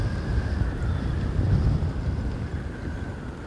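Steady outdoor wind roars and buffets the microphone, a continuous low rumble with gusty swells, heard alone with no talking.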